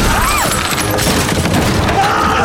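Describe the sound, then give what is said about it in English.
A loud crash of a door being smashed open as Vlad smashes through the door of a trailer, a dense burst of splintering and banging noise that stays harsh and heavy for a couple of seconds. “Suddenly, Vlad smashes through the door.”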